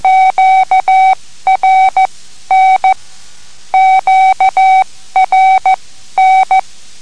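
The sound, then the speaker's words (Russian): Steady mid-pitched radio telegraph Morse code beeps, loud and clear, keyed out in short and long pulses sending the three-letter Q-code QRN, signalling atmospheric interference, the same sequence sent twice with no voices. “А если мешают помехи от атмосферные помехи, то тогда нужно передать QRN Николай в конце.”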